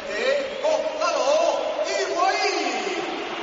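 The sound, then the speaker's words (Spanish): A large stadium crowd at a football match roars steadily as Benzema is substituted off and Higuaín comes on. Shrill whistles rise and fall above a dense wash of clapping and voices, loud and continuous throughout. “Pitos y palmas.”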